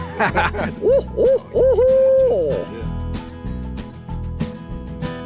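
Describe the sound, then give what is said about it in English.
A person imitates an owl with a quick run of loud, close hoots, each swooping up and down, ending in one long drawn-out hoot, while a steady low musical bed continues underneath. “Do you ever owl hoot when you're excited about something as a celebratory?”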